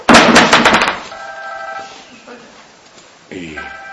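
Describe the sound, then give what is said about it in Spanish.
A cell phone rings with a bright electronic tone that sounds in two stretches after a short burst of loud clattering, ringing clearly. “Vamos todos a apagar nuestro celular.”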